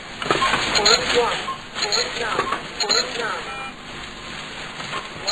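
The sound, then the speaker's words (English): A talking supermarket cash register reads out a price in a flat, robotic synthesized voice, its tinny, clipped words running for several seconds over a faint background hum. “Yeah, I used to think that it was really clever that the cash register could talk to me.”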